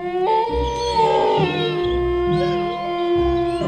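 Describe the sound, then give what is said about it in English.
A chorus of wolves howls together, several long, wavering cries overlapping and sliding in pitch, loud, with a low pulsing rumble underneath and no talking. “Okay, thank you, wolves. Down, boys.”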